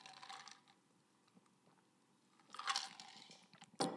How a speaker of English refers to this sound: Let me get a drink.